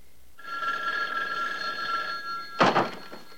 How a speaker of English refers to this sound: Hearing the telephone, he moves back through the grotto and heads towards it.